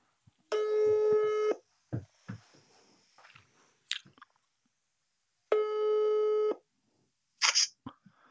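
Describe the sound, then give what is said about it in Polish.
A phone call rings out over speakerphone: two steady, buzzy ringback tones about a second long, spaced several seconds apart, with soft clicks and crunchy handling noises in between. “Nie, ale ja dzwonię na głos.”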